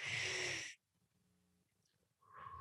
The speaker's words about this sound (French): Juste le fait d'avoir pris une grande respiration. On parle d'une respiration, puis une expiration, on dirait que ça vient de changer.